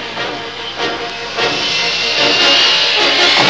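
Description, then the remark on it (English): The engine of the spaceship the Falcon roars as it accelerates into space, a dense, hissing rush that builds steadily louder over a few seconds, a continuous whooshing surge with no voices. “The Falcon accelerates into space”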